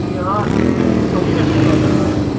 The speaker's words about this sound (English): Maybe that'll calm the motorcyclists, won't it?